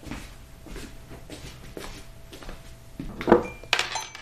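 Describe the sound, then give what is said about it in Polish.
Teacups and dishes clink and rattle against each other as tea is made ready, a few soft knocks building to brighter, ringing chinks near the end, with no voices over them. “Herbata gotowa.”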